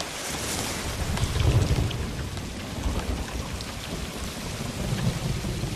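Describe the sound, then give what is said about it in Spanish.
Heavy rain pours steadily throughout while deep rumbles of thunder roll in, swelling loudest near the start and returning toward the end. No voices. “Fueron terribles esas tormentas, 2 personas además fallecieron”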